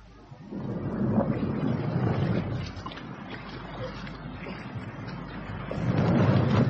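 A small boat moves across water from an island on a voyage of exploration to find fresh water, with a steady churning and splashing rumble that carries on throughout and swells louder near the end. No one speaks.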